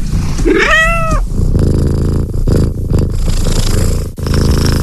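A cat gives one drawn-out, bending meow, then settles into a loud, steady purr that rumbles low and continuous for several seconds, with no voices.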